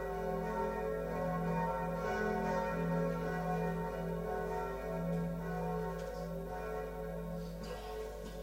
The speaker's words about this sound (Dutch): Het is 16 juli 1410. De klokken van Praag luiden.